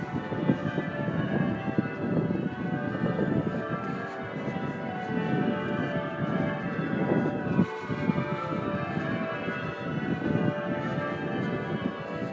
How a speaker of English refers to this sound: So we're just going up to Lichfield Cathedral after the royal wedding. You can already hear the bells chiming, thank you. So here we are in the close, you can hear the bells chiming.